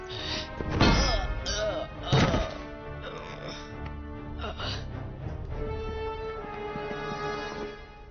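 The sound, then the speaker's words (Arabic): Someone tries to force a door, landing two heavy, booming thuds about a second apart, followed by a few lighter knocks against a steady background hum. “ركز على اختراق الباب.”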